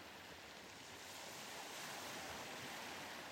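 gentle ocean waves lapping

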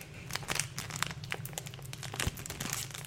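crinkling packaging

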